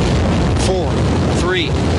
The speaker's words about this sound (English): Booster ignition and lift off. The crew of Artemis 2, now bound for the moon. I love that. Can you feel the throbbing of that rocket?